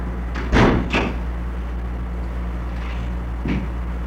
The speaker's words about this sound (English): And if you bang your feet up and down rapidly and loudly on the floor, that's called what?